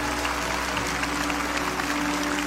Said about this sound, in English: Come on, Lakewood. Let's give them a hand clap as they stand all over the building.